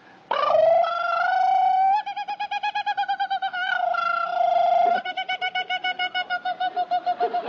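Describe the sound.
A man imitates a kookaburra call, starting with loud sustained hooting tones that break into rapid, rhythmic cackling bursts, clear with no other talk.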